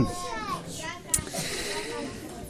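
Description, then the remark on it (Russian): Several children chatter and call out at once in a lively, overlapping babble, with a brief sharp squeal cutting through midway. “Как дети хорошо оживились.”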